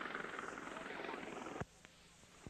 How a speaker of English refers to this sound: The helicopter is still going around. It's still going around, asking the brothers to surrender.